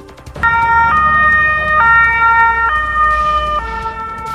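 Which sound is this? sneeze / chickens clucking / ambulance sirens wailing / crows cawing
ambulance sirens wailing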